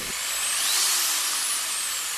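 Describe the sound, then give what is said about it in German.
A high-pitched surgical drill used in an operating room while implanting a hip endoprosthesis whines steadily for a couple of seconds, its pitch rising slightly then settling, fairly loud with no voices. “Patienten, die mal ganz gespannt sind, wie es in einem OP so läuft, auch was dort gesprochen wird, lauschen auch vielleicht den Geräuschen, die ein Bohrer verursacht oder ein Hammer, der benutzt wird, wenn man eine Hüftendoprothese implantiert.”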